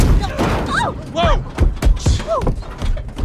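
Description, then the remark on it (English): A series of heavy thuds and bangs as a person lands on a car hood, with several sharp impacts amid short shouted voice exclamations. “An astronaut knocks on their window before a caveman lands on their hood.”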